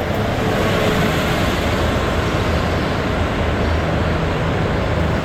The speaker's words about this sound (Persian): الان ساعت چنده داره اتوبوس رد میشه واقعا؟ کی الان اتوبوس میخواد واقعا؟ چرا؟ الان کی سوار اتوبوس میشه؟ برای چی واقعا؟